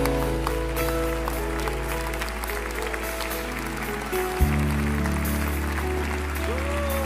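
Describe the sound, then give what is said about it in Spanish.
An audience at an afternoon consecration service applauds steadily, a dense wash of many hands clapping for several seconds over sustained keyboard-like chords that shift to a new harmony partway through. “Él es ese aplauso, son sus hermanos.”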